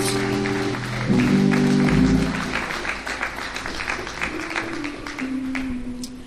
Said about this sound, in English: And for that, guess what? Let's give God a hand clap of praise in this place. Amen.